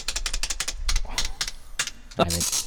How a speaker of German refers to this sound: Das war ja die Tastatur.